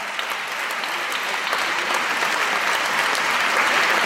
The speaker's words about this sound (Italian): Grazie a tutti e a ciascuno per essere qua, grazie, grazie. Fatevi un applauso, lo fate a voi.